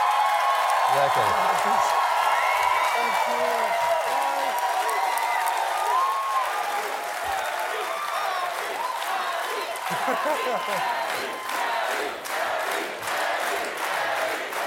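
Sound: crowd cheering and applauding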